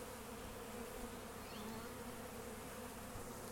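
A honeybee buzzes steadily and continuously, a droning hum that holds a fairly even level throughout with slight wavering in pitch, no voices present.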